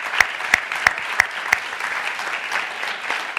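A crowd claps steadily, a dense wash of many hands with a few sharper, louder claps standing out at a regular pace near the start, no voices over it.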